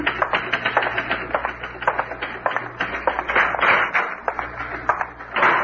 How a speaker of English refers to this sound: Yes, sir. I'm typing up his report now.